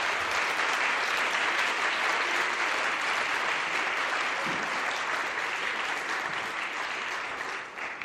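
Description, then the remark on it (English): Sustained audience applause for children who sang, a dense crackle of many hands clapping at steady volume for several seconds, tapering slightly at the end, with no one speaking over it. “Could we get one more round of applause for them, please?”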